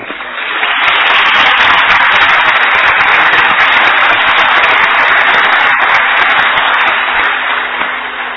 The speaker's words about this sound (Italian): Ricordo, mi segnalano che in aula c'è il sindaco di Amatrice. Eccolo qua, è arrivato. Un applauso.